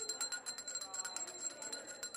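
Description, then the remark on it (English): A bell rings rapidly and continuously for a couple of seconds at a student convention, signalling that acting candidates must move on to another table; a bright metallic trill over a faint murmur of voices. “The bell means it's time to move on to another table and meet another candidate.”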